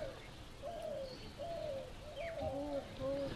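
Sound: doves cooing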